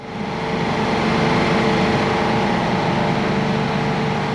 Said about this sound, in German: Alltagsgeräusche, die man überall, ob drinnen oder draußen hört im Camp, sind die der Klimaanlage und die der Generatoren.